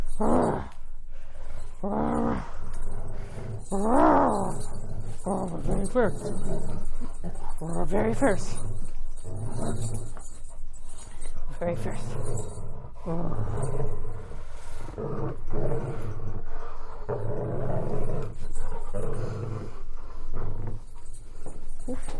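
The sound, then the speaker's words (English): A golden retriever growls and rumbles in playful bursts while playing tug, as a person talks to it over the noise. The growls come and go throughout, rising into louder snarling roars at moments. “We'll go back to playing tug. Yes, we will. Yes, we will. Okay, where's your toy? Where's your toy? No, don't you just growl at me.”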